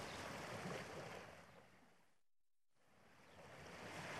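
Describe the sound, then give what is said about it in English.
A steady, hissing wash of surf and breaking waves at a beach fills the scene, fading to near silence for a moment midway before swelling back up. No one speaks. “We're having fun at the beach.”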